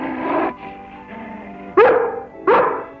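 A female dog barks sharply twice near the end, loud, at something back out of sight, after a stretch of lower whining or growling vocal sounds.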